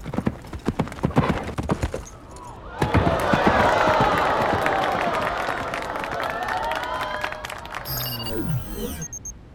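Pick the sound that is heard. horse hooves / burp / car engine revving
horse hooves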